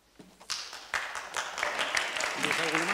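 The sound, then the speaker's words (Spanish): Audience applause starts with a few scattered claps, then swells into steady, fairly loud clapping from a crowd; a voice briefly speaks over it near the end. “Me pido, por favor, de verdad, que está muy bien, pero no, por favor, no aplauden, de verdad, les ruego.”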